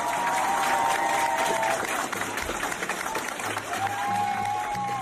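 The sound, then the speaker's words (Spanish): Classmates and teachers clap steadily and loudly for several seconds, forming a corridor for a six-year-old boy returning to school after beating childhood cancer; dense overlapping applause with some cheering and voices mixed in, plus a faint tonal whistle-like sound rising and falling in the background. “Un niño de 6 años que consigue vencer un cáncer infantil y cuando vuelve al cole, sus compañeros y profesores le hacen el pasillo, le dan un aplauso increíble.”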